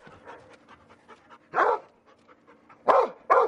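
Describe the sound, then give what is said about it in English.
A search and rescue dog in training pants rapidly and steadily, then lets out three loud, sharp barks, the last two in quick succession, at a U.S. training facility with simulated collapsed freeways, leaning buildings, rubble piles and wrecked cars. “It's the only facility of its kind in the U.S., built specifically for dogs to learn search and rescue.”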